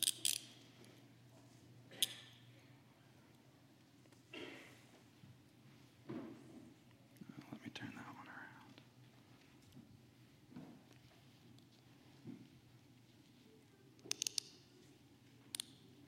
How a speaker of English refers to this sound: So I have these handcuffs here. He wants to be handcuffed. Okay. And I do have the keys for them, by the way.